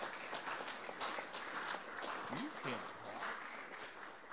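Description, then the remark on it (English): A convention crowd breaks into steady applause for the Resolutions Committee and its chair, dense overlapping claps filling the room for several seconds at an even level, with a brief murmur of voices underneath. “This group is so busy and is so hardworking on behalf of this organization, and I want us all to give a huge applause to the Resolutions Committee and its chair.”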